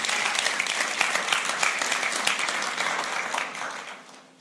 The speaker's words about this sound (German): Hier mal einen Applaus. Dankeschön.